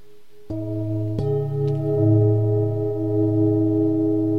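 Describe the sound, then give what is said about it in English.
A singing bowl about 6 or 7 inches across is struck twice in quick succession, then rings on with a steady, shimmering low hum and layered overtones that waver gently as the tone sustains. “Yeah, this is about a 6 or 7 inch bowl.”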